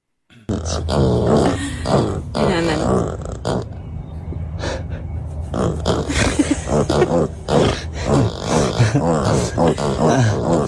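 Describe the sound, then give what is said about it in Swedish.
Two sleeping mini pigs grunting and snuffling as they are petted, in low, rough bursts, a steady run of short grunts and snorts with occasional higher squeaky breaths, fairly loud throughout with no talking. “Att det är 2 stycken minigrisar som ligger och sover, och varje gång de klappas på de här grisarna så låter det så här.”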